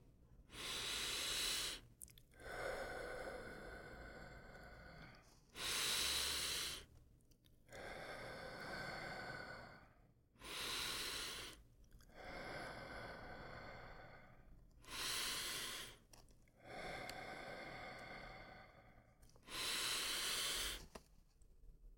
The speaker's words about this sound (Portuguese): Faça 5 respirações completas. Respirando.